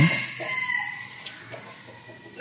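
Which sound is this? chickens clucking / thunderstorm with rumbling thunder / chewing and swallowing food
chickens clucking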